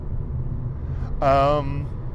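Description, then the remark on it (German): Steady low rumble of a car interior while driving near the Frankfurter Kreuz interchange in Germany, continuous and moderately loud, with a brief voiced sound rising over it for about half a second. “Ihr seht, wir sind live im Auto, wir sind gleich am Frankfurter Kreuz, so viel dazu.”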